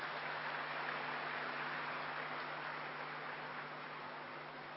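A crowd applauds steadily as a bouquet is presented to Baba, a dense wash of many hands clapping that holds at an even, moderate level without pause and without any voices on top.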